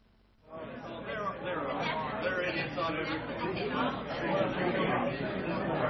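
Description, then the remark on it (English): A steady murmur of crowd chatter, many voices overlapping into an unbroken babble that begins abruptly after a brief moment of silence and holds at an even level throughout. “Listen to the crowd noise.”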